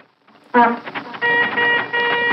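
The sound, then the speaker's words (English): A cartoonish old jalopy car sound effect: a loud, buzzy, sputtering engine rattle with honking, horn-like tones that lurch and restart over about two seconds, with no talking. “Love that new that new the new jalopy sound.”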